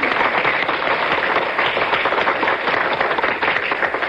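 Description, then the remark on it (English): Steady, dense applause from audiences in Minneapolis and New York mixed into one, many hands clapping at once in a continuous loud wash with no pauses and no voices breaking through. “Applause from Minneapolis and thank applause from much. New York, all mixed up into one.”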